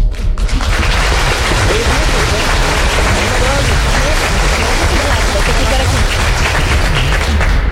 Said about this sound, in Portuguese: Nos acolhendo mutuamente, uma salva de palmas.